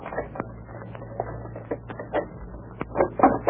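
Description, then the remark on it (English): A key scrapes and rattles in a common, ordinary back door lock, making a run of small metallic clicks and jiggles that grow busier toward the end, over a low steady hum. “Yes, it's a common ordinary back door lock. I'll try this key.”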